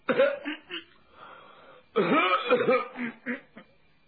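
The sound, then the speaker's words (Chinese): A man gives two throaty coughs after retreating to an outer room and sitting down on a chair, first a short rough burst, then after a pause a longer, harsher throat-clearing cough that trails off in a few gruff pulses. “吓得许大门牙赶紧把手缩回来了，三步两步退到外屋，往椅子上一坐，咳嗽两声。”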